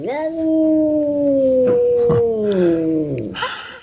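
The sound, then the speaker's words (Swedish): An angry cat growling in one long, drawn-out moaning yowl that wavers and slowly sinks in pitch, broken by a couple of short rough bursts, ending in a brief hissing spit. “Och ofta är det så att när katter är lite arga på andra katter och de är irriterade på varandra, då kan det komma ut dels ett fräs, men ett annat ljud också som jag tycker själv är ganska spännande.”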